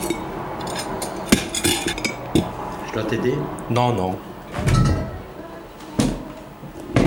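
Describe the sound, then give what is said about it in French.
Dishes and cutlery being cleared from a table, with sharp clinks and clatters of plates and silverware scattered throughout, as people talk briefly over the noise. “Je vais débarrasser déjà ça.”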